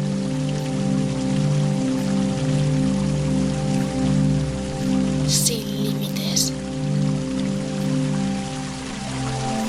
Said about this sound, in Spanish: Ese agua purifica todo tu ser. Ahora enfoca tu mirada en el agua de la fuente.